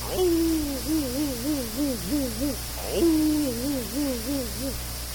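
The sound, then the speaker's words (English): A lazy old dog named Thunder, with bags under his eyes and a big floppy chin and jaws, howls twice, each long, low howl starting with a brief rise, then sagging and wobbling lazily in pitch before trailing off. No one speaks. “And he had one particular dog named Thunder, and he had several bags under his eyes and a big floppy chin and jaws, and it was just an effort for Thunder to do anything.”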